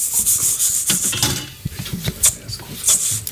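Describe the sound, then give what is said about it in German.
Steady scraping and rubbing of a spoon against a pot, with grainy rustles and a few light clinks, as couscous and salt are stirred into boiled water. No one speaks. “Couscous und Salz einrühren.”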